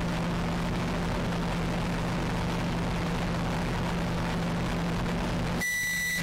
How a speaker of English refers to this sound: Oh, it's so loud. Awful to hear. Microwave. Well, let's hear it out.